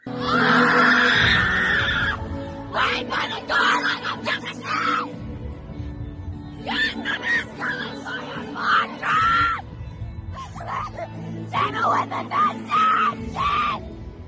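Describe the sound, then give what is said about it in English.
A voice lets out a series of strained, guttural screeches and braying cries, imitating a person in a crowd singing like a constipated donkey, in rough bursts with short pauses, loud over a low rumbling background. “someone was enjoying it from their place in the crowd, and an individual beside them started singing with sort of a guttural screech that can only be described as sounding like a constipated donkey.”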